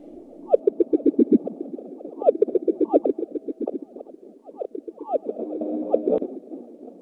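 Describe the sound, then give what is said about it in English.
A simulated ocean sound made by NASA scientists: dense, bubbly gurgling with rapid warbling chirps that surge in several waves, steady in loudness, with no voices. “it's actually a simulated sound of what some scientists at NASA think the oceans”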